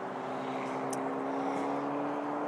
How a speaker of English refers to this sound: Now, I'm not gonna apologize for the road noise, because I am, after all, out and about.